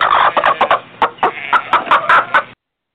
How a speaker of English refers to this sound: That was my rubber chicken, one of them.